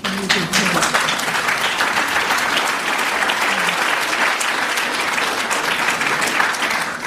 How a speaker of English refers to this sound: Spontaneous round of applause is a good point to end the evening.